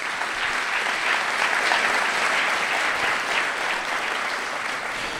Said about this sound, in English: Can we give Pastor Alexis a round of applause for sharing part of his story?